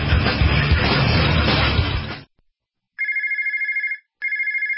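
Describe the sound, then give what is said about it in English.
A loud, noisy crash-like burst, then a short silence and two bursts of a warbling electronic telephone ring, clear, the second cut off at the end. “If your phone's not ringing, chances are it's a problem with your marketing.”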